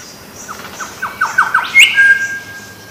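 Forest ambience in Australia with a steady background hiss and a series of bird calls: quick rising chirps followed by a louder squawk and a thin sustained whistle, with no talking.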